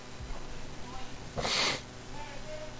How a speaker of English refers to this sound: this started with just one little booger that was tickling my nose. And now it's turned into a sneezing fit.